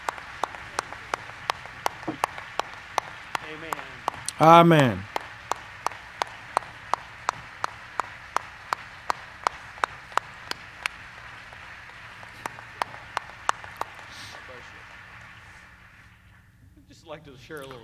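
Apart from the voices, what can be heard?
audience standing applause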